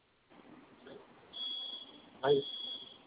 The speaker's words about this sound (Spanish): Se silenció la primera alarma. No. Sonaron dos. Al momento de que usted ingresó su clave, dejó de sonar la primera y la que está sonando sonó posteriormente. No, ninguno dejó de sonar.